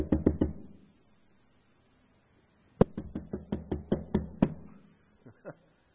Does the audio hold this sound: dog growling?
no